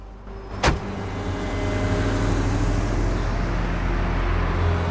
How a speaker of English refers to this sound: Danko's expression remains impassive as he turns and gets into a chauffeur-driven car. Bennett watches him closely as he leaves.